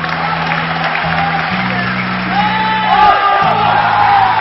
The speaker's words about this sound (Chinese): 谢谢亲爱的观众朋友，让我们大家再一次把热烈的掌声献给以郭德纲为带领的德云社的演员们，谢谢。